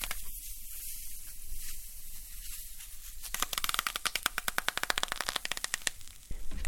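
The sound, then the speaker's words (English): Wet wood, lightly soaked with a spray bottle, steams, crackles and pops as it is bent on a piece of aluminum heated to 300 degrees Fahrenheit, a rapid, dense run of sharp snaps that builds after a few seconds of quiet hissing, fairly loud. “And when he bends the wood on it, it not only steams, but it crackles.”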